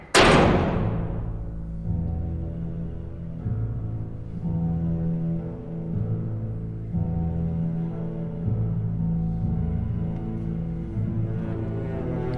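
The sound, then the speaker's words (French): A heavy door slams shut with one sharp, loud bang, followed by a low, steady droning hum that rings on for several seconds without any voices. “Attention, la porte se ferme.”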